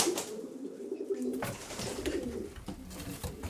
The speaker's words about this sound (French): Parler aux pigeons, bon, on n'attend pas une réponse bien sûr, mais bon, on aime leur parler.